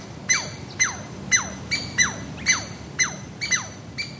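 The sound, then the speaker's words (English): A pair of chestnut-red squirrels, natives of forests west of the Cascade Rim, giving territorial chatter calls at the recordists' presence: about nine harsh, high squawking bursts, each sliding downward in pitch, repeating at a steady quick pace with no voices. “They waste no time in telling you and other squirrels you're in their territory, particularly if you're near their central larder of conifer cones.”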